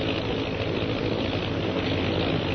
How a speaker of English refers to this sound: Oh, those sure are some planes. They must be bombers.